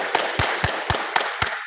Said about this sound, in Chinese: 教会有新传道人，大家鼓下掌。